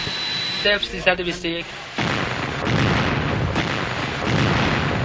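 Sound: multiple explosions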